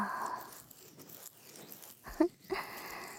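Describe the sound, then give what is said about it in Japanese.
Lathered foam bubbles fizz with a steady, soft crackling hiss full of tiny pops, broken by a couple of louder crunchy bursts toward the end. No one speaks. “はい、シュワシュワ。”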